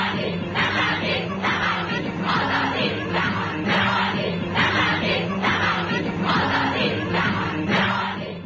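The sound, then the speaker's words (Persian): A large crowd of Iranian women shouts in protest against compulsory hijab at their first political gathering in the first days after the revolution's victory, voices rising together in rhythmic bursts about once a second, a loud, continuous chant with a dense roar of many voices underneath. “صدای فریادهای آنها برای همیشه در تاریخ ثبت شده است.”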